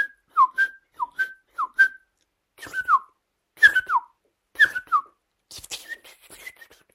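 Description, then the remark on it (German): A person whistles an imitation of a song thrush: sharp, clear notes in short repeated phrases with brief pauses, fairly loud, ending in softer, thinner twittering. “Also sie hat sehr scharfe Pfeiftöne.”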